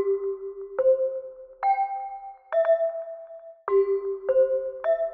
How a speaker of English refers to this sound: and the idea was that at the end of each program, the announcer who's at the microphone and is saying, "This is the National Broadcasting Company," would strike a seven-note chime sequence on a set of hand chimes that he held next to the microphone.